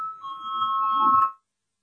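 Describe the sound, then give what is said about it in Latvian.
A single sustained bell tone, rung in a legislative session to call a vote on a proposal, rings steadily for about a second and a half, moderately loud and slightly swelling, then cuts off abruptly over a faint murmur of room noise. “Lūdzu zvanu, balsosim par trešo juridiskā biroja priekšlikumu.”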